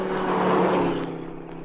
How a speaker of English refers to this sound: Listen. Car coming.